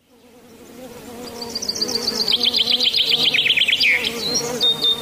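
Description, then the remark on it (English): A steady droning buzz of bees swells in over the first couple of seconds and holds, with quick high bird chirps and trills sounding above it. “When people hear the sound of buzzing bees, some feel panic or fear at the thought of being stung.”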